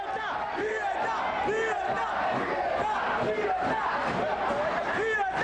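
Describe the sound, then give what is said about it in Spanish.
Demonstrators on 5 August 1994, crying "libertad" (freedom) as police were deployed against them, shout and chant together in a dense, continuous roar, many voices overlapping with rising cries and rhythmic swells throughout, loud and unbroken from start to finish. “En las manifestaciones se observa el despliegue del cuerpo policial que reprimía a aquellos que gritaban libertad.”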